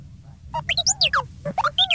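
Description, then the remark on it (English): The droid R2-D2 beeps and whistles frantically in the gantry office, a rapid burst of chirps warbling up and down in pitch and sweeping tones, over a low rumbling hum. “Back in the gantry office, R2-D2 beeped and whistled frantically as someone began banging on the locked door.”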